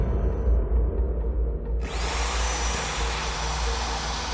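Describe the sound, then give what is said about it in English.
A power drill whirs at low pitch, then its bit bites in with a loud, steady grinding hiss as it bores a hole, running continuously with no voices. “A drill bit bores a hole.”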